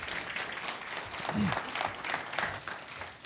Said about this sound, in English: Well, good morning. How are you? Don't clap. I might suck. You don't know.